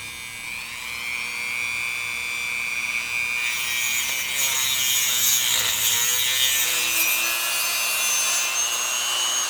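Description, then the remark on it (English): A diamond-covered drill bit cuts slices of bone, a continuous high-pitched whine with a gritty rasp that grows louder and harsher about halfway through, with no voices. “And this is actually a diamond bit, a diamond-covered drill bit. This actually cuts the slices.”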